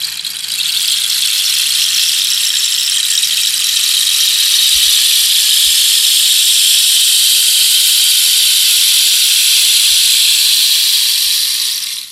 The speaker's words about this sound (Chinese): 那接下来我们要介绍的是什么样元素呢？是不是水元素？ 雨声棒 Rain Stick， 然后这个是秘鲁那边的那个仙人掌做的乐器。